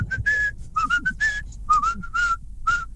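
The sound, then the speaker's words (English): A person whistles a quick, lilting tune of short and sustained notes, clear, while travelling in a car, with the low rumble of the moving car underneath. “and they've asked me to send in my whistle.”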